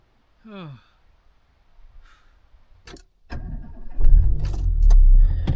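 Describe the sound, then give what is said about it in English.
A car engine cranks and catches with a sharp burst, then settles into a loud, steady rumble as the car pulls away in a snowy setting, preceded by a brief vocal chirp and a few small clicks. “Rolling, baby.”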